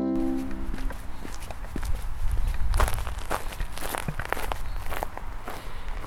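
Steady footsteps walk along a street past the AVROTROS building, where balloons hang everywhere, each step a short, crisp tap in an even rhythm over a constant low rumble of outdoor background noise.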